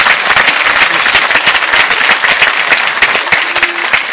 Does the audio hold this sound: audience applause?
yes